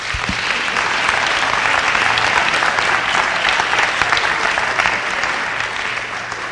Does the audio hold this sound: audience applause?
yes